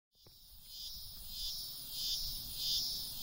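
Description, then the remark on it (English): A dense, continuous high-pitched insect drone of cicadas on the east coast of the U.S., swelling and fading in slow waves over a few seconds, steady and fairly loud with no voices. “If you live on the east coast of the U.S., you probably heard the buzz about cicadas. They're pretty loud, but they make some cool noises, which got me thinking.”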